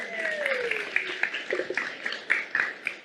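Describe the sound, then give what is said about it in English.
A crowd claps steadily for about three seconds, a dense crackling patter with sharper individual claps popping out, and a brief voice-like tone sliding down near the start. “Okay, give everybody a round of applause.”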